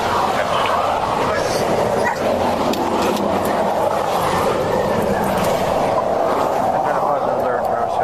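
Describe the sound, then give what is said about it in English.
A police dog barks in repeated bursts while being run around a vehicle to sniff for narcotics, over a loud, steady rumble of traffic or an idling engine, with muffled voices talking. “You have a problem me running my dog on your vehicle here?”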